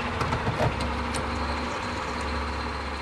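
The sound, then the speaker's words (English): A man fills up his car's tank at a gas station amid a steady engine-and-traffic rumble, with a few light clicks and clanks early on and no voices. “is filling up his car's tank.”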